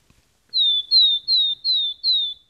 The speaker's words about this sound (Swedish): Det där låter som en talltita. Helt riktigt.